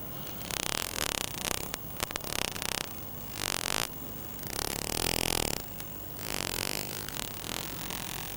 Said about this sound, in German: Also so ein Knarzen und Klicken. Mhm. Damit orientiert sich der Schweinswal, findet Nahrung, kommuniziert mit Artgenossen.